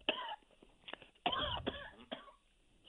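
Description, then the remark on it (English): A person coughs several times in a harsh burst series, with a rough throat-clearing quality, loudest in the middle and trailing off near the end. “Excuse me. Coughing.”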